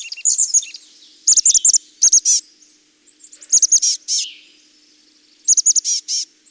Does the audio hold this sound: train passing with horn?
no